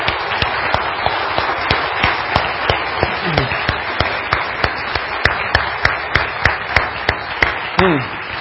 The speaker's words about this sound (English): And so this is what I want us to do. Let's give God the greatest applause of all applause for working yesterday, shall we?